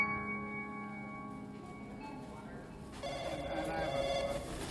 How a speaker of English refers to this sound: The phone rings and rings, and in my mind's eye, I run to pick it up, my hand without its usual shakes.